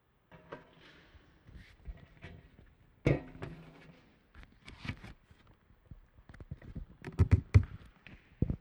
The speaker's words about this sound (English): I hold the microphone as close as I can to the music stand so you hear all the creaks and pops that it makes.